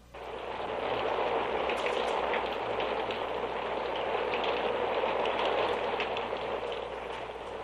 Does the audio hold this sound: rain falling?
yes